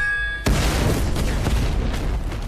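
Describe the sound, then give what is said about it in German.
A sudden, loud explosion booms in a film trailer after a brief quiet hum, then a dense, roaring rumble of blast and debris noise carries on to the end. “Neben vielen Explosionen und schnellen Autos gibt's im Film auch den Jackie Chan-typischen Humor”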